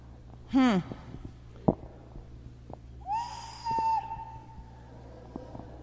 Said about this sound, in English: It's a whistle. It is a whistle. Yeah, that look is exactly why it sits on a shelf up here, because otherwise my grandkids are running around with it all the time, whistling on it.